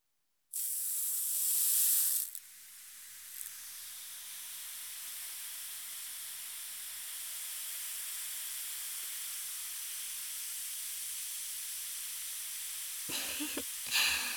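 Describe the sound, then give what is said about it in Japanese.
A carbonated bath powder is added to a warm foot bath, hitting the water with a brief loud rush, then settling into a steady, continuous high fizzing hiss of bubbles, with faint soft splashes toward the end. No one speaks. “炭酸のシワシワが足に伝わってきましたか？”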